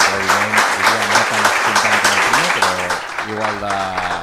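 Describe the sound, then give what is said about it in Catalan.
A crowd filling a hall applauds steadily for several seconds, a dense continuous wash of clapping, while voices speak over it the whole time. “Hi ha aplaudiments, no sé si hi haurà més preguntes.”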